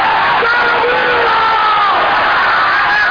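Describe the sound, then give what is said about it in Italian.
A large crowd roars with sustained cheering and applause, a dense, loud wash of clapping and shouting that holds steady throughout, with a few rising whoops and yells cutting above the din. “Un grosso applauso, un grosso salamira per lui!”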